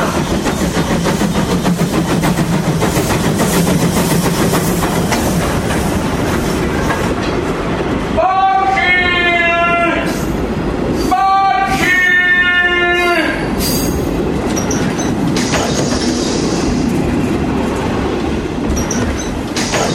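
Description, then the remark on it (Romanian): A train rumbles past a level crossing loudly and steadily with rattling clatter throughout, as two long, tonal blasts of horn or wheel screech ring out near the middle. No one speaks. “Am îndurat să ajung până aici, iar el nu a fost în tren.”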